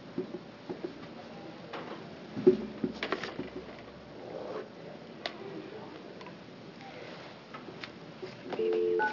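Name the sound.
telephone keypad dialing tones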